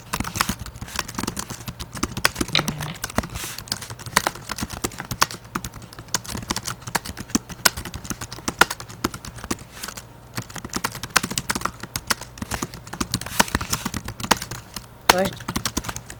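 Rapid, continuous keystrokes clatter on a computer keyboard for the whole stretch, dense and irregular clicks, over a low steady background hum.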